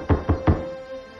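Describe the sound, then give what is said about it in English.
Three quick, dull knocks of a kneeling woman's hand on the wooden floor of a study, evenly spaced, followed by a quiet room with a faint steady hum. “She falls to her knees and knocks on the floor with her hand.”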